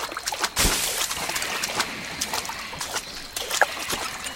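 Steady splashing and sloshing of a character wading through water in a video game, with a sharper splash near the start and a softer one later, moderately loud, with no one talking.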